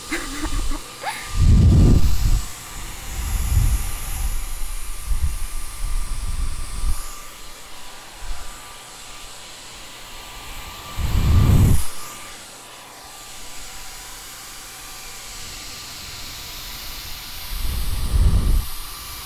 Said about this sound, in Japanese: ドライヤーが怖いね。もうちょっと待ってね。すぐ終わる。